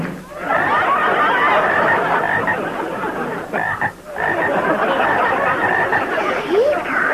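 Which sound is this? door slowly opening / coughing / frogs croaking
frogs croaking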